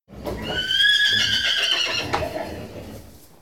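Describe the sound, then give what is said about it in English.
A horse neighs loudly, a long quavering whinny that starts high, wavers, then drops in pitch and trails off, with no talking. “Hercules takes all the horses from the stables. The horses go to a field and eat grass. They're happy.”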